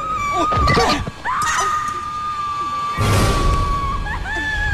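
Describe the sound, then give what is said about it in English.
A woman screams loudly in one long, sustained, high-pitched cry that wavers slightly in pitch, with bursts of rough noise and commotion around it, during a struggle over a gun; she then faints. “The screaming Tiffany faints as Drew, having got hold of the gun, rushes to Katerina and examines her wrist.”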